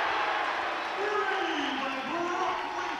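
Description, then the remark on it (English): A big Warsaw student section at a basketball game roars steadily as Warsaw takes its first lead at 7-6, a dense wash of shouting and cheering voices that stays loud for the whole stretch, with individual yells rising out of the crowd noise. “As you can hear, this place is a powder keg. This student section came ready, and it's a big crowd, and they love the fact that Warsaw has their first lead at 7-6.”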